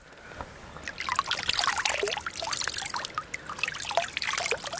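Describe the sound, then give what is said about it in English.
A small stream running beside tillage fields on a farm in the River Liffey catchment, after an enormous downpour of rain an hour earlier, gurgles and trickles steadily, with bright splashing and bubbling water sounds throughout and no voices. “could we see the river running through his fields?”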